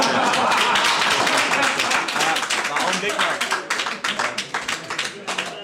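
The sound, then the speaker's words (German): Dense applause from an audience fills the scene, many hands clapping at once, then thinning into scattered, individual claps toward the end. “Ich meine, das Klatschen hört man, ne?”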